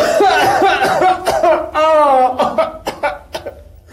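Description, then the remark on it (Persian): A man, an engineer, puts on a string of exaggerated, theatrical coughs and throat noises while taking a phone call, several in quick irregular bursts, fairly loud, with a strained vocal sound in the middle, pretending to have a cold. “مهندس گیج میشه، نمیدونه چی کار کنه، تلفن رو میگیره و ادای سرفه و عدسه و سرماخوردگی در میاره.”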